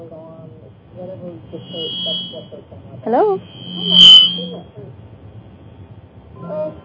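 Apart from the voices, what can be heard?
electronic beep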